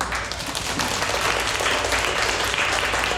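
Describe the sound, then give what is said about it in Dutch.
Loud, sustained applause from a crowd after a Little Red Riding Hood performance, a dense wash of many hands clapping at once, steady for the whole stretch without any talking. “Rood kappie opgegeten, luid applaus!”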